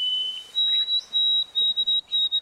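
A shorter version of a white-throated sparrow's song: clear, pure, high whistled notes held steadily across a couple of seconds, with a slight step up in pitch and a gently pulsing rhythm.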